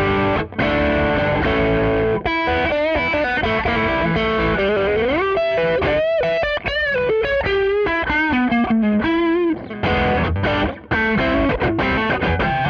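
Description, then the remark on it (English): A loud, overdriven electric guitar, a Strat on the neck pickup boosted for lead tone by a second Tube Screamer, a TS-10 pedal, plays a continuous lead line with bends and sustained notes, its boosted mid-range tone gritty and saturated, with no voices over it. “And then if I want to boost it for my lead tone, I'll actually use another tube screamer. Here I'm using the TS-10.”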